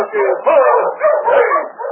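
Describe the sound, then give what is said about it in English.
A dog named King barks and yips in quick, overlapping bursts, fairly loud, an excited, almost continuous run of high-pitched calls, as it comes from the shadows in the snow to help fight off wolves. “That dog is King.”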